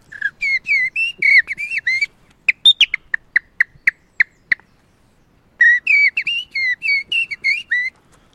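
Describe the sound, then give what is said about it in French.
A person whistles an imitation of a common blackbird's song: warbling melodic phrases, then a run of sharp repeated chirps, then another fluttering phrase, clear with no talking. “Et là je lui fais le merle noir, qui est l'oiseau préféré de mon père, et certainement l'oiseau le plus virtuose qui existe en Europe, parce que c'est un oiseau très mélancolique, noir, sublime, qui se met...”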